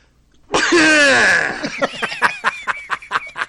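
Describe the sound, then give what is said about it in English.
A single loud, drawn-out sneeze bursts in with a strained vocal tone, then trails into a quick series of short breathy gasps or chuckles. “You sneezing.”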